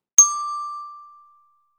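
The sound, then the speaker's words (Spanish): A single bright bell chime strikes once, clear, with a sustained ringing tone that slowly fades over about a second, used as the signal in a French word-reading exercise. No voices accompany it. “Au son du timbre, relis les mots après moi.”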